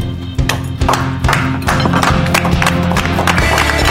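A family seated at a counter claps together, a dense, steady patter of hand claps that carries on for several seconds with no voices, over a faint low hum.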